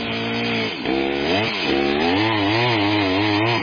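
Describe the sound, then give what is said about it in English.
A chainsaw runs loud without a break, its engine whining and dipping in pitch as the blade bites into wood while cutting down a tree in the mountains, then revving back up. “The only thing we're able to bring is chainsaws.”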